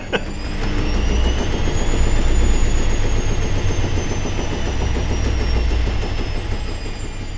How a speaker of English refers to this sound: That felt like one of those bits where you get the washing machine sound and you move on to the next.